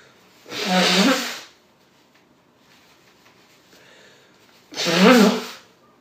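Two loud, forceful nose blows, each a harsh, honking gust of air lasting about a second, separated by a few seconds of near silence.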